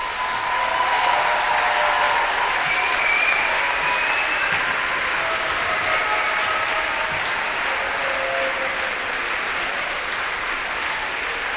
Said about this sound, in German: Und einen fetten Applaus.